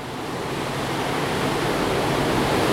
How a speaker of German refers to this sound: Hier sehe ich so eine Leitung, wo das Wasser wieder aus dem Reservoir rauskommt.